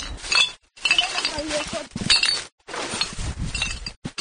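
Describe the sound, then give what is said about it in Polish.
Glass bottles clink and clatter together inside a rubbish bag of collected litter, one of two bags filled with glass, loud, in several jostling bursts separated by brief silent pauses. “To jest już trzeci worek. Znaczy dwa z szkłem, a trzeci był sprętem i musiałam je łamać, bo drugie było.”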